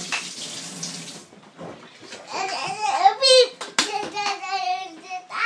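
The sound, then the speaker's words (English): Tap water pours into an already mostly full kettle in a kitchen as a steady, bright hiss for just over a second, then cuts off, followed by voices, including a child's, chattering over faint clatter. “So we'll fill out the kettle, which is actually mostly full already, which is great.”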